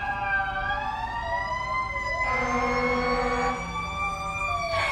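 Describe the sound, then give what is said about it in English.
Several emergency sirens from two or three fire trucks and an ambulance blare together, a fire truck's rising wail layered with the ambulance's tones, loud and sustained as the vehicles pass over rumbling traffic. “That's 2 or 3 fire trucks and an ambulance.”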